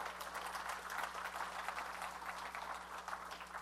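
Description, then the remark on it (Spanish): An audience applauds, with dense, steady clapping from many hands sustained throughout at a fairly quiet, even level over a low constant hum, with no one talking. “Denle un aplauso.”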